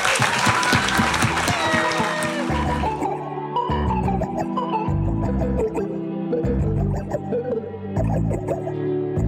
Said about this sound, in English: Thank you all for coming. We're going to hang out and have some drinks. And round of applause to Jess and Jen.